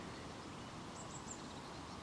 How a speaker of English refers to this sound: small birds nearby, children's voices much further away. Probably over at Lamport.